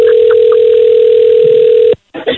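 A telephone ringing on an outgoing call: one steady, low-pitched ring tone lasting about two seconds, loud and unbroken, then cut off abruptly before a brief burst of voice.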